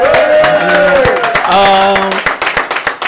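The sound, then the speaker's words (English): A church audience breaks into applause, dense clapping mixed with loud sustained whoops and cheering voices for the first two seconds, then the cheers drop away and scattered claps continue. “You know, and I just want to, for all the disciples, for everyone that showed up, I just want to give yourself a round of applause.”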